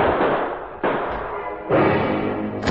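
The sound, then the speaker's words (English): Several gunshots fired in an office during a struggle over a gun, about four loud, sharp bangs spaced roughly a second apart, each followed by a long, rumbling decay that blends into the next. No voices are heard. “Shots rang out before he reached the door.”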